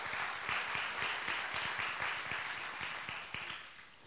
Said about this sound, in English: Enjoy this song. Yeah, you can clap for that.